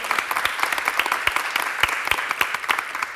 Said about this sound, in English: Yes, well, let's give a round of applause to everybody at Capital City Fruit.